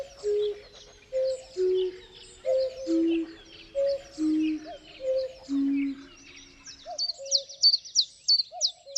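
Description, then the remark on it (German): Common chiffchaff song: a steady series of clear notes alternating between two pitches, followed by a burst of higher, thinner chirps near the end, with no voices and little else in the background. “Jeden Frühling ist der Zilpzalp einer der ersten Zugvögel, die nach Deutschland zurückkehren.”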